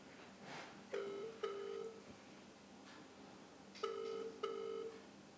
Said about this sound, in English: It's gone really quiet. Well, wait, we hear it listening to a phone ring.